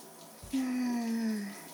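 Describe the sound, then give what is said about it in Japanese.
Shower water runs in a steady hiss in a home bathroom as a person rinses off, for the whole moment, joined midway by a brief low humming tone that fades back into the spray. “うちほどじゃないにしても、君もベタベタなんだからさ。ほら、シャワーで流して。”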